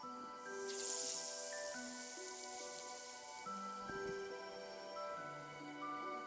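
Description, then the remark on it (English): A brief, airy spraying hiss as a spider sprays out a 25-meter silk bridging line rises near the start, then fades beneath steady orchestral music that carries on through the rest. “When it's all reeled in, she sprays again. Out streams another 25-meter bridging line.”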